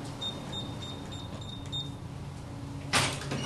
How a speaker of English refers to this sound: So, yeah, these are the doors to the vault. These are open and closed every day.